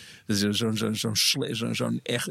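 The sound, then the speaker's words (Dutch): A single voice mimics a rockabilly-style echo bass line, singing a quick run of repeated, pulsing syllables in a steady rhythm with a brief breathy hiss partway through. “Zo'n echo-bas.”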